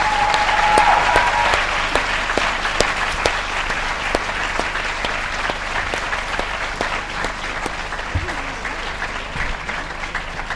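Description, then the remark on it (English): An audience claps steadily in a sustained round of applause for four presenters, dense and fairly loud throughout, with scattered sharper claps standing out and no voices above it. “I wonder if I could just ask you now, if you would just, because it's the last moment when you're going to be seeing four of them, so I wonder if I could just ask you perhaps to give just a round of applause to all of them,”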